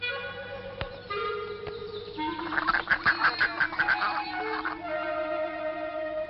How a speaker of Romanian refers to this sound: Suntem în curtea Bojdelcei cu atmosfera pe care probabil o și auziți aici. Vecini, păsări, aerul Bojdelcii respiră. Curtea este plină, ca de obicei, de vizitatori. Este și un grup de copii veniți de undeva din colțul țării aici, în curtea poveștilor.